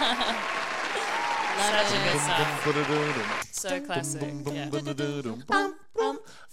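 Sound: hand clapping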